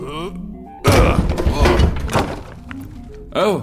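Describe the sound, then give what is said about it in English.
A door is smashed in with a heavy, loud, crunching crash that rumbles on for a couple of seconds. Brief voices come just before and right after. “can you knock down this door?”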